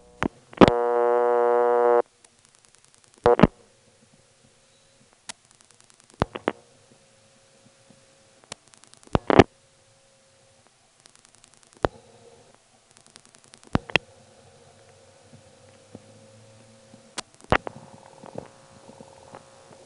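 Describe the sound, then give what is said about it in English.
A telephone's buzzy dial tone sounds for a couple of seconds, then stops, followed by scattered sharp clicks and ticks as a call is dialed with double ring selected, separated by quiet gaps with a faint low hum; a tick comes after the sixth digit. “On this call, I'll be selecting double ring. But listen for a mysterious tick after the 6th digit.”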